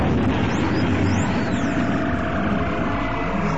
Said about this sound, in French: Seulement toutes les deux minutes avec une régularité déconcertante. Ah mais regardez là, il y a de nouveau les avions qui passent, toujours les mêmes. Si seulement ils pouvaient nous apercevoir.